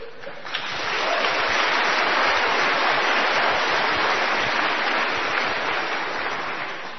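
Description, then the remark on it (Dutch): A crowd applauds steadily, the clapping swelling within the first second into a dense, even roar of many hands that holds for several seconds before easing slightly at the end. “Je hoort het. Applaus.”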